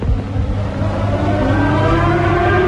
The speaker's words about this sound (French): Et pour la première fois, le cri des sirènes devient un chant.